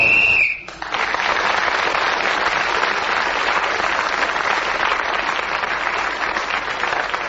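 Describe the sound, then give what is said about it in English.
A short, shrill whistle blast, blown to signal time up as Clement Freud was speaking, sounds at the very start, then breaks off as loud, sustained applause from an audience takes over and continues steadily to the end. “So Clement was again, Clement Freud was in speaking as the whistle went, gained that extra point and has increased his lead.”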